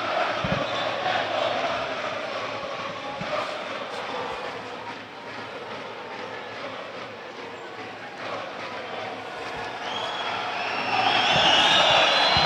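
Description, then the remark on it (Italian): A large stadium crowd at a Venezia football match keeps up a steady roar, with the home crowd's shrill high whistles rising out of it and growing louder and more insistent toward the end. “Venezia che adesso, come sentite negli effetti di fondo con i fischi del pubblico di casa, perde anche un po' di tempo prima di questa battuta lunga del portiere Stankovic”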